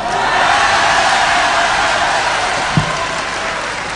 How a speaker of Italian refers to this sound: Devinez qui a applaudi ici.